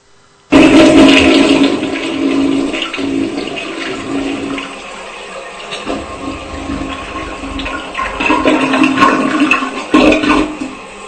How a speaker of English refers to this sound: Now that's a toilet. That is. That's a big toilet. Holy smokes. That's like one of those old-fashioned truck stop toilets. It's got a whole gallon. Oh, there. That was like a 40-gallon flush. I mean, you could flush a hog down that toilet.